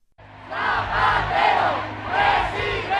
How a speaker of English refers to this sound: Huge numbers of Zapatero fans poured into the streets when the victory was announced. They were so excited they hopped up and down in a kind of coordinated dance when he appeared on the podium.